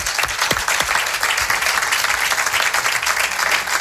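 Steady farewell applause from friends from Jaén, a dense wash of many hands clapping at an even loudness throughout, with no voices standing out.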